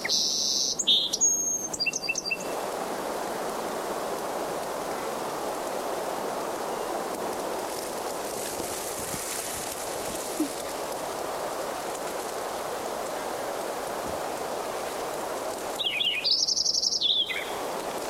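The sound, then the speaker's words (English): A banded Lincoln's sparrow, with a red upper band on its left leg and hiding in willows, sings two short, high, bubbly trilled phrases, one at the start and one near the end, over a steady background hiss with a long quiet gap between. “Lincoln Sparrow number 6 is banded, and it's got the left leg, the upper band is red, and I couldn't see.”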